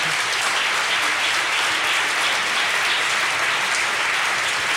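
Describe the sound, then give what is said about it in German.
Sustained applause from an audience at an event where a Hamburg reading circle (Hamburger Lesekreis) is asked to make itself heard, a dense, steady wash of clapping that stays loud and even throughout with no pauses and no voices standing out. “Super, Applaus, super.”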